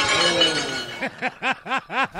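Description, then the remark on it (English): A loud crash of glasses clattering in a restaurant tray rings out for about a second, followed by a quick series of short, evenly spaced tonal chirps. “I still feel like the crash of the glasses in the tray sounds like what the sound effect of crashing glasses in restaurant tray would sound like.”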